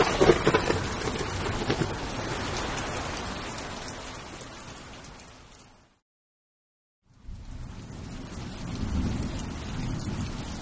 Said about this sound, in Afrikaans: Sjoe. En daar reën ons sportdag uit. Ek het lanklaas so 'n storm gesien. Die see is bruin soos die getyrivier afkom.